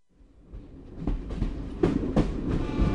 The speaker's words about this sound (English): We leave in darkness, a 6 a.m. train from New Delhi to Agra. Its tracks were set under British rule and run past tidy rectangles of farmland, shabby villages, men squatting in the fields performing their morning ablutions.